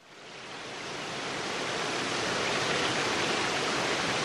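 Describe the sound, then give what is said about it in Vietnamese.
A clear stream flows through a dense forest with a steady, hissing rush of water that swells up from quiet in the first second, then runs on evenly and fairly loud, with no voices. “Đi được một lúc, hai mẹ con đến một khu rừng rậm, có con suối trong vắt chảy qua.”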